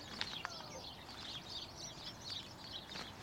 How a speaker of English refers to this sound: The sparrows hopping around inside the hedge. Yes, here we are. Oh. Some flew out just in front of us.